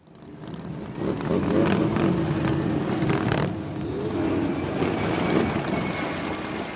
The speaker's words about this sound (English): For more than 3 decades now, on the Sunday preceding Memorial Day, tens of thousands of motorcyclists have rumbled through the streets of downtown Washington, all a part of what's known as Rolling Thunder.